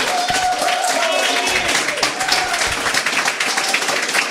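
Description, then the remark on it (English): An audience at the Nerdist Writer Series, a live talk about television writing, applauds steadily, dense overlapping claps forming a continuous crackling wash at an even, fairly loud level, with faint voices and a brief whoop mixed in. “Condescending applause.”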